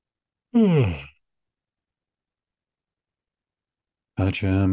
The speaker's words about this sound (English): One more yawn and I'll get going.